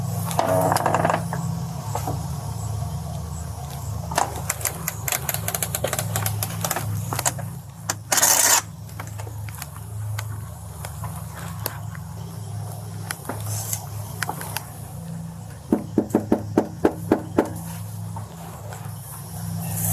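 Scattered light knocks on a door give way to a louder burst, then a quick run of about six hard, heavy raps, all over a steady low hum with no talking.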